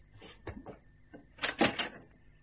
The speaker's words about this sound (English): The door to the yard opened.